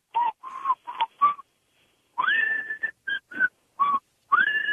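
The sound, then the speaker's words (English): A person whistles the theme of The Andy Griffith Show slowly and mournfully, in short breathy phrases of a few notes each, separated by brief pauses, with no talking. “you wanted to try to whistle the Andy Griffith song, sadly?”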